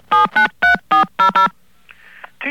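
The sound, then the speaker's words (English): Six loud, evenly spaced touch-tone beeps as a phone number is dialed, each a short steady burst, followed by a couple of faint clicks and a brief noise near the end. “Now, let's give you the phone number, and you read it back to us.”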